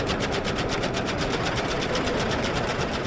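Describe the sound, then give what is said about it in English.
An electromagnetic, motor-driven split-flap train departures board flapping: a fast, steady mechanical clatter of many tiny flaps ticking over in a continuous rattling stream, fairly loud throughout, with no voices. “And the thing that I love about the board is that when you're waiting for a train, you see your train up there on the board, and then you start to hear the flapping, and you don't know what's going to come up.”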